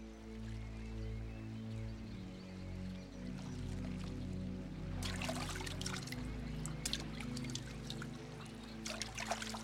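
water trickling

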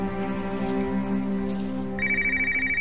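phone ringing

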